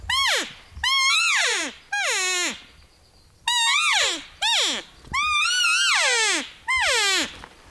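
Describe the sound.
A man imitates a cow elk with a series of about seven high, nasal mewing calls. Each call rises briefly, then slides downward in pitch, with short pauses between them.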